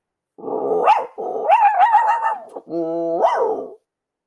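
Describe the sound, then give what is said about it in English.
A person imitates a dog with three drawn-out, barking and whining vocal sounds, fairly loud, each rising and falling in pitch, with short pauses between them and no other sounds. “Do you want me to do the dog speak and then you'll do?”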